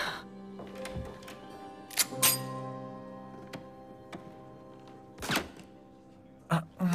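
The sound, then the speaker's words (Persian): Several muffled gunshots from a silenced weapon: short, dull thunks with a faint metallic click, spaced irregularly over a steady low mechanical hum, with no voices. “پس میشه گفتش که این یه خفه کننده است، نه؟”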